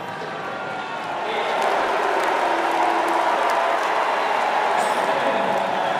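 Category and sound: crowd, convention crowd booing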